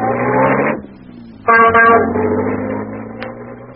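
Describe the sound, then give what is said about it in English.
An ancient taxi's engine rumbles steadily as it drives through a street thronged with children and donkeys toward the Taj Mahal, with a long honk of the horn at the start and a second blaring honk shortly after, then a low idling drone. “So I hailed one of the ancient and unlikely taxis that paid the tourists.”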